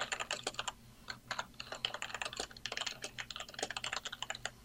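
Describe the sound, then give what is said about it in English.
Rapid, uneven clatter of keys on a computer keyboard as text is typed into an input text box to test it, with bursts of quick keystrokes and brief pauses, no voices and a faint low hum underneath. “Since this is an input text box, you can test it directly by typing in stuff.”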